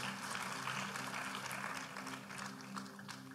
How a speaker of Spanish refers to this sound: Puedes sentarse dando un fuerte aplauso al Señor Jesús.